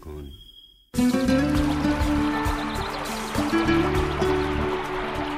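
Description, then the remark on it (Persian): After a brief near-silent moment, flowing stream water starts abruptly and trickles steadily, fairly loud, with a sustained tonal hum running underneath. “صدای پای آب.”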